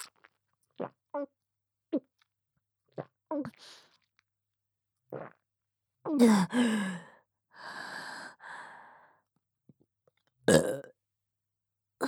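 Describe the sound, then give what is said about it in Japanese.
Loud burps, including a long drawn-out one and a shorter final belch, after a string of small gulping and mouth clicks. Breathy sighs sit between them, with no talking. “でもご主人様もこのゲップ大好きですよね。”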